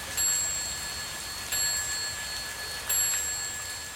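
A clock strikes nine o'clock with bright, ringing chimes, three evenly spaced strokes that each linger and fade, heard over a steady hiss of rain beginning to fall.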